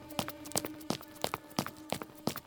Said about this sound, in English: Hurried footsteps on dirt. Clank of a handle of an iron door. The door opens. Footsteps resume on stone.